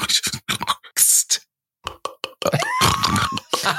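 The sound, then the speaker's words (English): A voice imitates a pig chomping through 18 beer cans: bursts of grunts, snorts and crunchy scraping noises, a short pause, then a longer run of snuffling, crackling sounds with a rising squeal. “What do you think that would have sounded like, a pig scrunching the word they used on 18 cans of”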